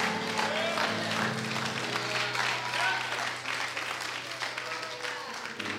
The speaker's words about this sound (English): Anybody know it on today? Oh, if you believe it, come on and clap your hands.